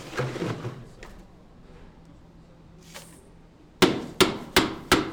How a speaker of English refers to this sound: Jesus Mayo and Andres Batista are hammering ice with a mallet. I mean, the process actually takes maybe like an hour or so, like with me and him.